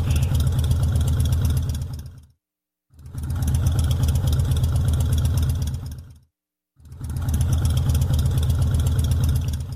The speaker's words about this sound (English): The first one is that very familiar sound of a Harley Davidson motorcycle engine, and you're going to hear it three times.